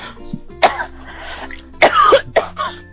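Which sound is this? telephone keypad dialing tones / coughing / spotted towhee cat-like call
coughing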